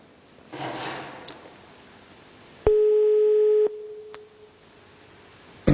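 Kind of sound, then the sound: signal or alarm, telephone line tone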